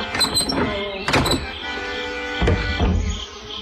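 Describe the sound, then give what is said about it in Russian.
A metal door latch clicks and rattles as it is lifted, followed by a couple of heavy, dull thuds as a shoulder is pushed against the bolted wooden door, which does not open; fairly loud. “Эмиль подошел к двери и поднял щеколду.”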